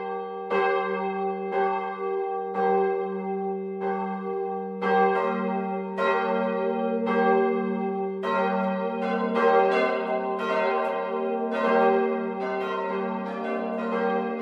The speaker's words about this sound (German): Es ist 12 Uhr. Das Mittagsläuten kommt heute von der katholischen Pfarrkirche St. Martin im unterfränkischen Spessartdorf Heimbuchental.